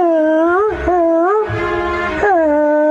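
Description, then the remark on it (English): Someone imitates a ghostly whale cry with a voice, making loud, eerie wailing moans that swoop up and down in pitch, about three long sustained swells with no words. “the ghosts of many whales.”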